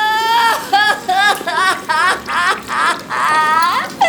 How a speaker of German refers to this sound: Da fing die kluge Else an zu weinen.